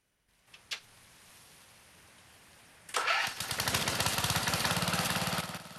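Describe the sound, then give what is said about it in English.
After a quiet moment and a single click, a riding lawn mower engine turns over and catches, then idles loudly with a steady, rapid chugging pulse. “Clearly unimpressed, Rose nevertheless buttons her lips as Alvin reverses the mower towards the trailer with its green tarpaulin cover.”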